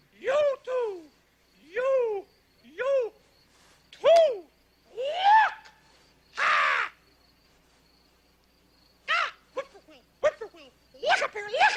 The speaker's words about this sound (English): The bird calls.